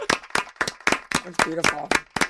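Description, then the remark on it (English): Radio hosts clap their hands in a steady, brisk rhythm during the No Name Movie Game on 106.5, about ten sharp claps in a couple of seconds, with voices talking or singing faintly underneath. “Oh, you want us to clap more?”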